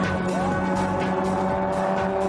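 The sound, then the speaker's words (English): The old Jeep engine of the Destroyer's car drones loudly and continuously with layered harmonic tones as it loses power on the final lap of a Grand Prix race, its pitch bending upward briefly before settling into a strained, steady whine, with no voices present. “It sounds like that old Jeep engine has had enough Grand Prix punishment.”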